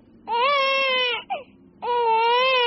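A newborn baby girl wails loudly in two long, strained bursts, with a short gasping hitch between them, insistent against a quiet background.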